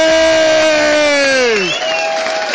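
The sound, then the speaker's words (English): A crowd at the Molyneux cheers and applauds loudly for the lady behind the bar for a couple of seconds, with a dense wash of clapping and a long sustained whoop that slides down in pitch before the cheering carries on. “So please give her a round thank of applause.”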